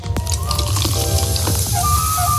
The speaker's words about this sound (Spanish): Es el sonido de una lata abriéndose